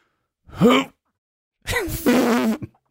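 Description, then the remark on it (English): A voice imitates a funny fart with two blown, buzzing raspberry sounds, a short squeaky one followed by a longer, wobbling, sputtering one, fairly loud with no speech. “The funny fart is the...”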